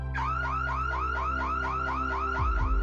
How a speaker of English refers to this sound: Then, another car alarm went off.